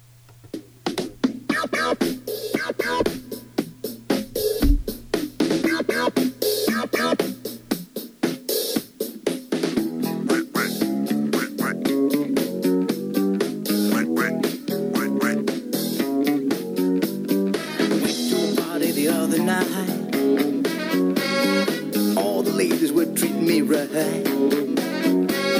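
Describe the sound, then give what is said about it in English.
An upbeat 1970s disco novelty song with duck quacks plays loud and continuous, starting with a thinner intro before building into a full dance groove with a steady, driving beat. “it's from the 1970s, and it's called …. So, here we go. This is ….”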